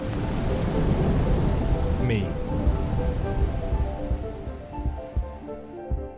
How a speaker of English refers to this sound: Thundering rain.